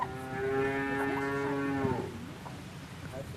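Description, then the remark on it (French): A single long, low moo from a cow on a family dairy farm rings out for about two seconds, rich and full, then fades into quiet outdoor background noise. “Ces vaches sont à ma tante.”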